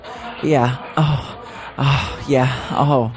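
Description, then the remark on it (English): A voice imitates heavy breathing: about five rhythmic panting gasps, each breathy and partly voiced, with brief pauses between them and no words spoken. “I mean, you act like maybe there's somebody behind me like fucking or on a bed or I should be breathing really hard and just like that.”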